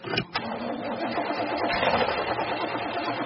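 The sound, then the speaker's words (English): A car engine cranks over and over without catching, a steady, rapid mechanical whirring and chugging that runs unbroken for a few seconds with no voices. “It won't start.”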